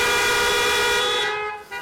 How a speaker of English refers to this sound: And if you're thankful for the resurrection, just beep your horn for me this morning.